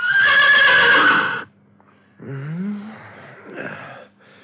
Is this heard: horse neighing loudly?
yes